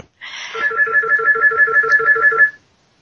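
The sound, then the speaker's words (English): A telephone upstairs rings in a rapid, steady electronic trill lasting a couple of seconds, clear and fairly loud, with no voices over it. “It appears somebody upstairs is getting a phone call.”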